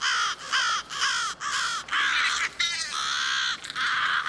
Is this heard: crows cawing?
yes